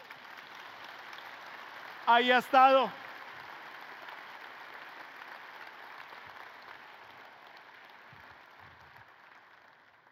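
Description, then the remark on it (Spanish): A church audience applauds the Lord steadily for about ten seconds, a dense even clatter of many hands. A man speaks briefly over it early on, and the clapping thins slightly toward the end. “Le hace un aplauso al Rey.”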